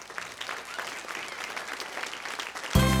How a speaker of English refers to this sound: The church says amen and amen. Give Jesus a good hand clap.